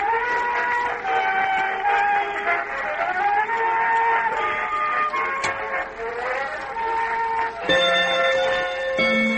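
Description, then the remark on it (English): An old bone-white clock with gold angels round the face chiming 3 o'clock, with overlapping bell-like tones ringing out loudly and continuously, shifting to a new set of pitches near the end. “Oh, I love that old clock of mine.”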